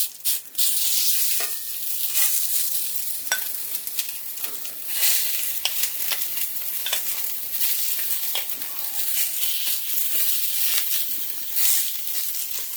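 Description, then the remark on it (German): Chili sizzles steadily in hot olive oil, a dense bright crackle with scattered sharper pops, holding fairly loud and even for the whole stretch with no voices. “Olivenöl ist schon ein bisschen sehr heiß. Jetzt geht's los.”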